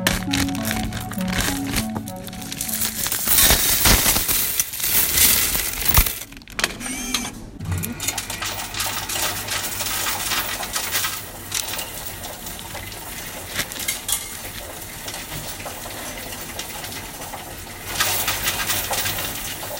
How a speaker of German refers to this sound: Deswegen sammle ich das in einem Bierhumpen und bringe den, wenn er voll ist, zur Bank und leere dann das Geld in eine Münzzählmaschine rein, die mir das Ganze dann zählt und auf mein Konto überweist.